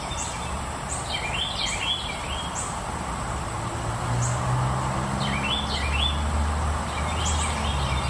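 A bird gives a rolling, trilling call of quick high notes tumbling downward, heard in two bursts several seconds apart over a steady hiss of background noise. No one speaks.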